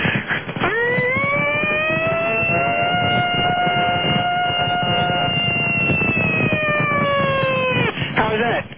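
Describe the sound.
A caller to the Don and Mike show vocally imitates a siren over a phone line: one long, steady wail that swoops up, holds loud for about seven seconds, then drops away, with muffled background noise underneath.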